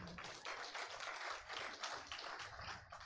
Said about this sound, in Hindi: ये ताली आप लोग हमेशा गलत चीज पे क्यों बजाते हो मुझे समझ में नहीं आता, कोई अच्छी चीज बताता हूं तो ना गंभीरता से सुनते हो, और जो मैं इधर उधर की बातें करता हूं ना तो ताली बजा देते हो आप लोग।